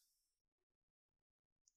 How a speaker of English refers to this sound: MC's grabbing his patented four-sided dice and or a digital dice, and we're rolling between number one, Rick and Morty, number two, The Real Ghostbusters, number three, Dexter's Lab, or number four, The Magic School Bus.